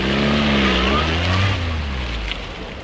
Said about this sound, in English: Franks pulls over to the passport control office and gets out of his open-topped car